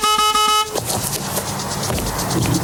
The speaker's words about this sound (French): Et par contre, il y a le voisin qui nous bloque avec sa voiture. Ah, si votre nana est rhabillée, on peut lui demander de déplacer la sienne. Elle a fait klaxonner. Encore ?